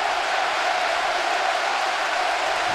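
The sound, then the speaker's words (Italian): A football stadium crowd, including giallorossi fans, applauds after Pazzini scores a penalty goal, a steady, dense wash of clapping and crowd noise that holds at an even level for the whole stretch, with no clear voices standing out. “Ci fanno gli applausi, bravo.”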